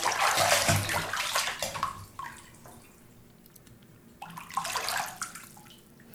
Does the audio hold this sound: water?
yes